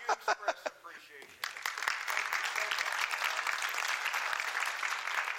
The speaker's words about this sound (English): You know, your claps are so nice, but I always like, that's who you clap for.